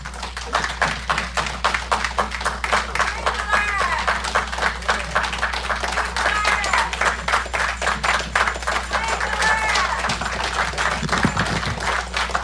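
Sustained audience applause: dense, crackling clapping from many hands at steady loudness for the whole stretch, with faint voices calling out now and then beneath it.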